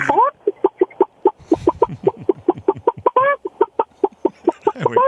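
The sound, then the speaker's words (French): A woman on a phone call imitates a clucking hen, a quick run of short, repeated clucks with a few rising squawks, delivered steadily for several seconds. “qui prétend qu'elle est la meilleure poule au Québec.”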